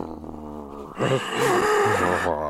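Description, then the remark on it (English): A person imitates a crocodile-like growl: a low, rumbling, snarly sound in the back of the throat that swells after a second into a loud, raspy snarl with a wavering pitch, sustained to the end. “I don't even know if you could hear it, but it's kind of this snarly sound in the back of the throat.”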